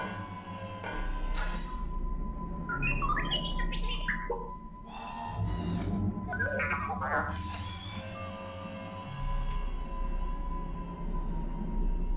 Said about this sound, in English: As I start to leave the lift, a small astromech droid rolls past the door.